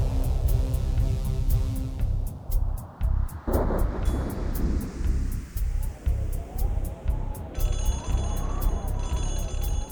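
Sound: thunderstorm with wind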